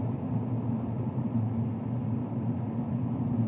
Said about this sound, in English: Alright, well, I think I am done recording in the car for now.